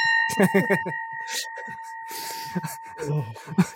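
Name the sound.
bell being rung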